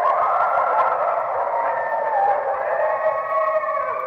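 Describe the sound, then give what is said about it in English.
Red wolves in the wild in North Carolina howling together, several long, wavering tones overlapping and sliding in pitch, steady and fairly loud for the full few seconds with no voices. Recorded by the U.S. Fish and Wildlife Service. “Keeping the red wolf howling in North Carolina's wild has not been cheap.”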